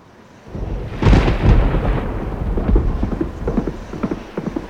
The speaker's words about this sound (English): A thunderstorm whirled in from the plains on the night following the ambush. A jagged yellow-white crack split the sky above Kane's and Grant's heads as they rode along on a pair of ponies Skydog had lent them.